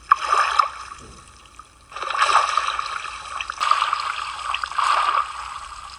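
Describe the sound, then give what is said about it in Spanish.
River water rushes and splashes in uneven surges, swelling loudly for a few seconds, easing off, then churning up again, with no voices. “Una tarde de mucho calor, tres niños escaparon de la escuela para bañarse en el río.”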